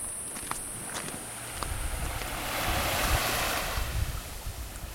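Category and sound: nature, waves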